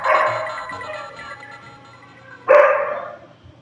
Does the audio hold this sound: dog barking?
yes